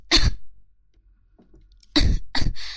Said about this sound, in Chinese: 骂你这个贱狗，骂的我都咳嗽了！